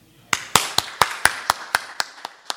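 Applause made of about ten crisp, evenly spaced claps in a quick, steady rhythm, fairly loud and sharp, with no talking.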